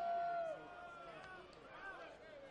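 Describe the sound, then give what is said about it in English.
A handful of Fort Myers fans cheer at a baseball game after Houghton turns on a slider, a whoop or whistle rising above the crowd at first, then the noise settles into a steady, softer murmur of voices. “Sounds like there's at least a few Fort Myers fans cheering about that one.”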